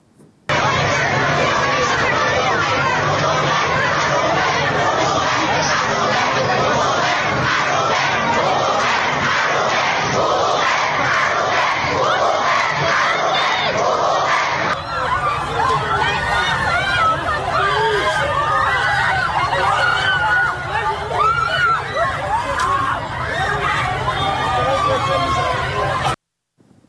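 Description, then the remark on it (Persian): A large crowd of animal rights supporters chants and shouts slogans together at a protest rally in Tehran, loud and unbroken for nearly the whole clip, with the mix of voices changing character partway through. “اما گروهی از حامیان حیوانات این هفته در تهران دست به تجمع اعتراضی زدن که تصاویری از اون رو با هم میبینیم.”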